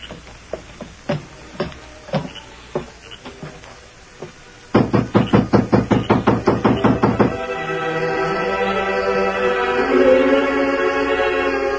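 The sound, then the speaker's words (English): A few scattered knocks on the door of the Lazy M ranch house late at night, then a loud, rapid burst of about a dozen raps, followed by a sustained musical tone swelling underneath. “Inside, when Miller heard the knocks...”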